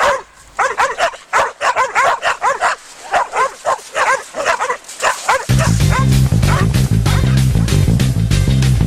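Several dogs bark loudly and rapidly, overlapping yips and woofs in a frantic burst lasting about five seconds before loud music abruptly takes over.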